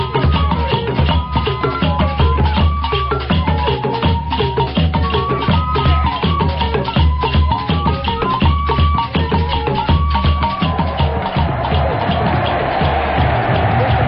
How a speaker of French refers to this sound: C'est la montée des couleurs togolaises qui est salvée par un grand vivat de la foule. Les couleurs togolaises, vous les connaissez, bande jaune, bande verte, carré rouge marqué d'une étoile blanche.